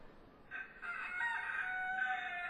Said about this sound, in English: Chickens! Chickens!